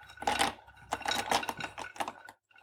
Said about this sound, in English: Just trying to carefully stick our hazelnuts in there.